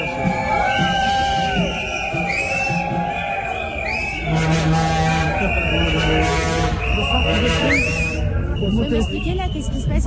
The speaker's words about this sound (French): Et là, il y a autant de sifflets parce qu'en fait, on est devant l'entrée